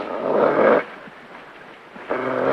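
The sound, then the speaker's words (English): A caged dog named Duke, baring his teeth, growls low and rough in two bursts, a long one and then a second after a short quiet pause, fairly loud with no voices. “The dog bares his teeth. He stares warily at Smitty through the cage door.”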